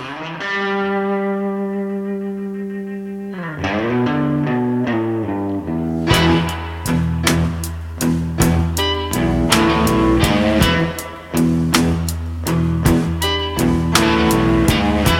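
A Chicago blues song: a distorted electric guitar rings out a long sustained chord, then the full band kicks in with a steady, hard-hitting drum beat, loud and close, with no singing yet.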